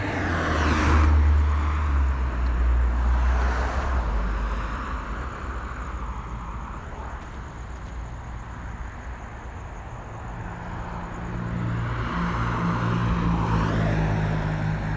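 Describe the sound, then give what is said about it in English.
Cars rev and pull away from a traffic light as it turns green, with a deep engine rumble, swelling loudly at the start and again near the end, with steady traffic noise in between and no talking. “I can hear the cars as they accelerate once the light turns green.”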